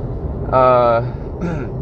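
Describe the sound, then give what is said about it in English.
A huge semi truck's engine rumbles loudly right beside the speaker, a deep steady drone with a brief rising tonal whine cutting in twice over the din. “There's a huge semi truck right beside me.”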